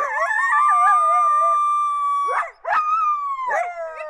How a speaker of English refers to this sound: BFA's CSD files, short for call, shoot, drag, 1 through 5, are made up of 100% coyote vocals from BFA's existing library.